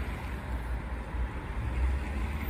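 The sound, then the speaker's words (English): A struggling car engine labors as the car pulls away and runs a red light, a steady low rumble with rough, uneven throbbing that stays moderately loud throughout, with no voices. “Oops, that car is struggling.”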